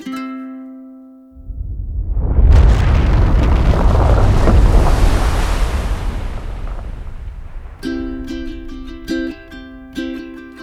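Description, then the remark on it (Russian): A deep, roaring volcanic eruption of a new volcano rising from the ocean swells up after a few soft musical notes, rumbling loudly for several seconds with a heavy low boom, then fades as gentle tonal music returns. “Там, где был лишь океан, новый высился вулкан.”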